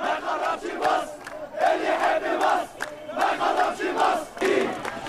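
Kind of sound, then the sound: crowd, protest crowd chanting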